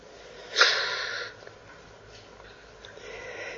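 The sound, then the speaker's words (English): A voice imitates the biblical Jonah snoring: one rough, breathy snort lasting under a second, fairly loud at its onset and then fading into quiet. “And so while others are praying, what's Jonah doing? He's snoring.”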